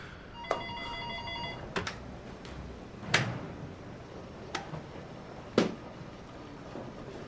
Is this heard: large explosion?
no